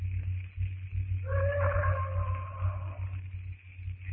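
A single drawn-out, moaning roar from a bull ape at night, miles away and fairly faint, rising over a steady low rumble and lasting under two seconds before fading back into the background.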